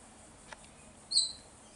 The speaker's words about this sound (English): It's a king parrot. Wow. Wow. So beautiful.